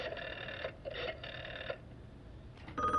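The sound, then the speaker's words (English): A telephone rings loudly: two long, trilling bursts with a brief gap between them, followed by a short pause and a faint new sound at the end. Nobody speaks. “That's them! That's them! Oh, jeez, where's the phone?”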